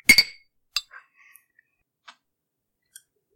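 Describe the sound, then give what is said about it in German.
Glasses clink together sharply in a toast, a bright ringing chime, followed by a few softer scattered taps and clicks of glassware settling. “Prost, Hannes. Prösterchen.”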